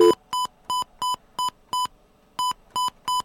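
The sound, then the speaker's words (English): A rapid run of short electronic tones from a phone keypad as someone dials 9 for an outside line to make a phone call, about eight quick beeps in a steady rhythm with a brief pause partway through, clear with no talking. “All right, let's try and make a phone call here.”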